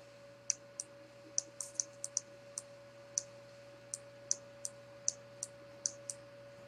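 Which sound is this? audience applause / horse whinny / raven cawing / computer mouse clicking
computer mouse clicking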